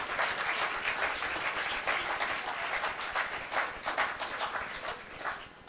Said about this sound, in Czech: A já bych chtěl, aby jsme jim všem zatleskali. Pojďme jim poděkovat za to, co oni dělají pro nás.